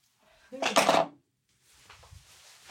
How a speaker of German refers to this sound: Und ich würfle mit dem Würfel.